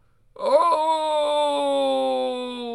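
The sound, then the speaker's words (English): A voice imitates a sick werewolf howl: one long, strained wail that scoops up in pitch, then holds a steady, buzzy moaning tone for about two seconds, loud and alone. “God, that sounds like a sick werewolf.”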